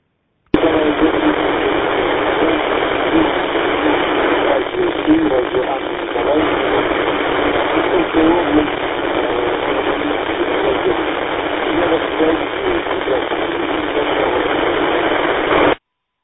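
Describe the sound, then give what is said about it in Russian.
Steady, band-limited radio static and hiss fill the whole stretch during amateur radio reception in Dokuchaevsk, with a garbled, barely intelligible voice (not telegraph) buried in the interference, as if from a weak shortwave transmission. “Да, конечно, я привык телеграф принимать помеха, но это не телеграф.”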